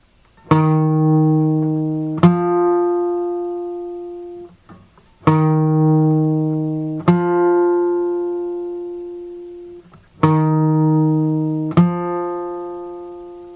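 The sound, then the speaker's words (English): A pair of sustained, harmonically rich musical notes an interval of a second apart, the second slightly higher than the first, played three times in a row. Each note starts with a clear attack and slowly decays. No voices. “The answer there is the second.”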